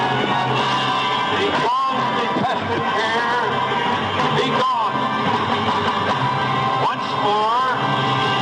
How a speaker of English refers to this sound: Also, notice the screams of pain coming from the sacrifice.